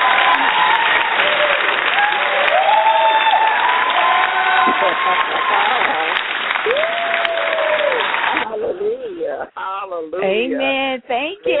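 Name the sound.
applause sound effect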